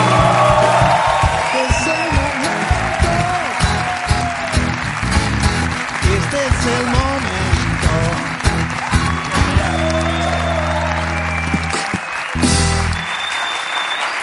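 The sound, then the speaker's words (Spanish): The audience of the show La Resistencia claps steadily and loudly for about fourteen seconds to welcome guest Coque Maya, with scattered whoops and cheers rising above the dense applause and a few low musical notes underneath. “Vamos a verlo ahora, no voy a dar más introducciones, pido un aplauso para Coque Maya en La Resistencia.”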